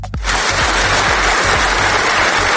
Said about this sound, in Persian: خسته نباشین، خسته نباشین، خیلی شعر قشنگی گفتین، آفرین، لطفا تشویقشون کنی.